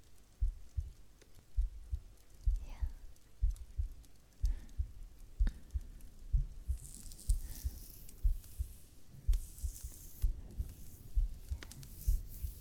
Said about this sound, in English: Can you feel my heart beating?